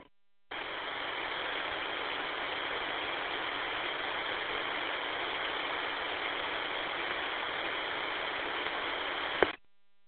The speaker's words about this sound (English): if that was you, all I got was static, not a clean transmission. Can you try again, please?